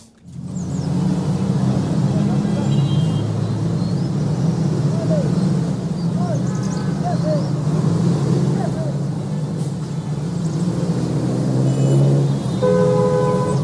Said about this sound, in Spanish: Ciudad, el bocinazo me conduce a decir que es ciudad.